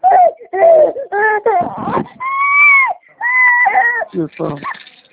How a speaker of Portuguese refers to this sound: Ih, tadinho do neném, tá chorando a beça.